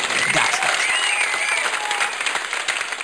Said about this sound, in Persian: هورا هورا، دست دست، هورا هورا.